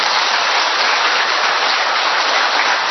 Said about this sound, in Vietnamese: Trong tinh thần hiệp thông, chúng ta đốt một tràng pháo tay thật lớn.